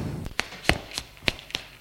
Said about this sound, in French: Le père le gifle.